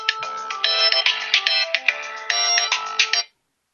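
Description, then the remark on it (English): A mobile phone ringtone plays loudly, a bright, busy electronic melody of rapid repeating tones lasting about three seconds before cutting off abruptly. No one speaks. “Excuse me, my phone went off.”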